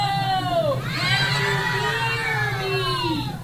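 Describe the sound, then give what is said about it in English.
A crowd of children shouting and cheering together, their high voices overlapping in a loud, continuous roar of excitement that holds steady for a few seconds. “Do you hear all the humans inside the tank?”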